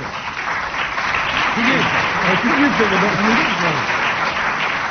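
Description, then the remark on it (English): Loud, sustained applause from a large audience fills the whole stretch, a dense wash of clapping with voices faintly audible underneath. “Tumultuous applause there for.”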